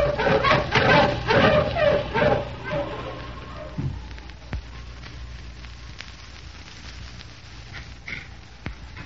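Several sled dogs bark in a rapid cluster of overlapping yaps for a few seconds at a hut in bad weather, then fall quiet. A faint crackling, windy background remains, with occasional sharp clicks.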